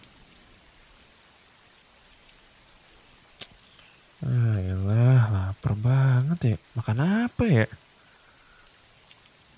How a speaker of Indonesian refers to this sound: Ini hujan gak ada niatan buat berhenti apa?